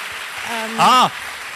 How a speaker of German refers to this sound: Ein Applaus für Jesus! Come on!